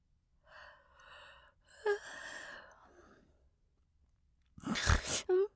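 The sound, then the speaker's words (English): A few soft, breathy snuffles followed by a short, loud nasal snort like a little snore, with no talking. “Were you snoring? Did you make a little snore?”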